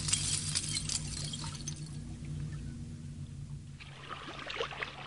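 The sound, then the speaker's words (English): Chunks from mounds of ice shelving into a lake tinkle and clink along the shore in late winter, a steady scatter of bright, glassy taps over lapping water and a low rumbling background, with no voices. “Mounds of ice shelve into the lake, tinkling like Christmas ornaments.”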